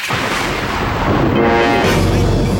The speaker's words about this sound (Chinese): 怎么会不怕呢？打雷这么恐怖，在老爸面前就不用装了，走走走，一起睡，打雷的时候用枕头把耳朵捂上就不怕了啊。